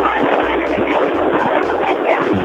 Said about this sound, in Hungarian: A szelet halljuk, egy szelet. Ez a marokkói szél, kedves hallgatók.